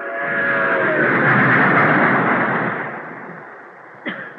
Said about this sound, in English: I couldn't help thinking back to Decatur, to how my mother would come home at night so tired, to that miserable apartment which shook as if it were part of the rattle of the trains that passed.